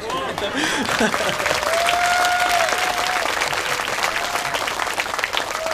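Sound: audience applause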